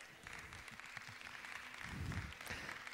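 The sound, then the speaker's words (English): A church audience applauds steadily, a dense wash of many hands clapping with a fuller, louder swell near the end and no speech over it. “Some of y'all can't clap because you're still in shock.”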